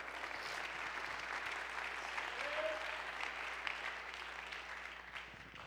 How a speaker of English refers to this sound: Somebody ought to clap your hands right now.